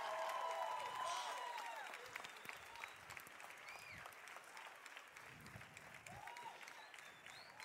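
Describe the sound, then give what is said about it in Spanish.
An audience applauds loudly, a dense wash of clapping that starts strong and gradually thins out, with scattered cheers and voices mixed in. “Denle un aplauso bien fuerte.”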